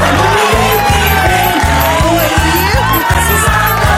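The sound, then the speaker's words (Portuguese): A loud crowd cheers and applauds without pause, with whoops rising over the din, while a steady, rhythmic low thumping pulses underneath. “Cadê os aplausos? Cadê os aplausos?”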